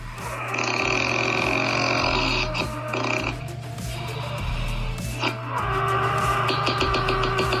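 Loud, continuous snoring by a candidate in a Brandenburg snoring contest, with a deep rattling drone and grunting, piglike snorts, harsh and almost mechanical, with a few sharper breathy bursts breaking through the steady rumble.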